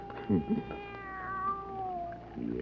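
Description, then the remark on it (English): A young kitten lets out one long, drawn-out meow that wavers and slowly falls in pitch, with a couple of brief murmured voice sounds near the start. “Nobody's going to hurt you, kitty, no. How about some milk, huh?”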